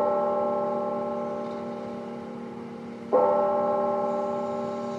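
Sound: church bells chiming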